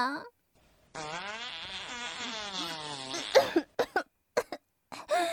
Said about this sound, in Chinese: 臭，臭死了。不要再对我放屁了，好臭，好臭啊，真的太臭了。